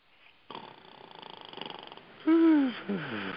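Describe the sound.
A raspy, fluttering snore rattles for about a second and a half, then breaks off into a loud, drawn-out groaning vocal sound, like someone jolted awake.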